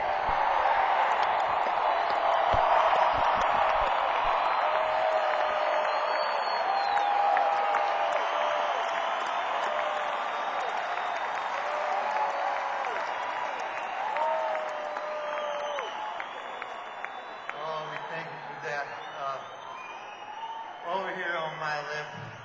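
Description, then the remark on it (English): A large crowd applauds and cheers a touring rock and roll band in a sustained, loud roar, with high whistles and shouted whoops rising above the clapping, thinning a little toward the end. “Let's have a big hand for that drunken, stomping, hard working, all American, world famous, Hall of Fame, traveling, rock and roll band”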